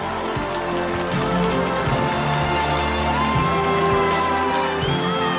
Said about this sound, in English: Joy hugs Mama Coffee as the crowd cheers in Jamaica.